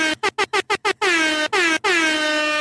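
A loud air horn fires off in a rapid string of short staccato blasts, then lets out several longer sustained honks, with no voices underneath.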